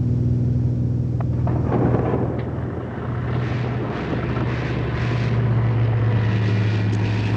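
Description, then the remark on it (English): A small propeller plane flying through a thunderstorm drones loudly and steadily throughout, its low engine hum wrapped in a dense, rumbling roar of storm turbulence and rain buffeting the aircraft. No one speaks. “Of course, statistically, when encountering weather aloft, the odds are in your favor in a smaller plane.”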